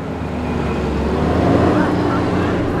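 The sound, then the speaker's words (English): A matatu minibus, a beat-up, muddy Toyota with bald tires, has its engine turn over and settle into a steady rumble as it rolls forward, the low droning hum swelling slightly midway before holding even. “Finally, a dubious Halverson gets it started, and the matatu rolls forward.”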